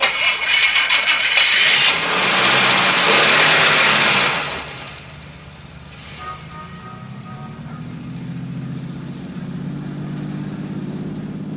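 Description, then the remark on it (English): A loud, rough burst of mechanical noise gives way to a car engine starting, idling and then revving up steadily, its low hum rising and holding. “Start your car. Head west to the highway and keep going till I tell you to stop.”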